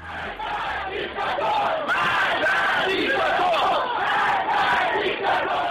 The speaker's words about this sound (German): Denn noch nie war es vorgekommen, dass Hunderttausende aufgebrachter junger Menschen durch die Straßen der Städte zogen und Tod dem Diktator skandierten.